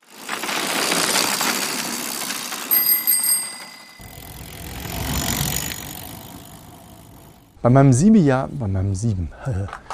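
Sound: car driving past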